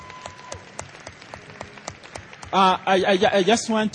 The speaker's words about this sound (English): She needs a bigger clap than that.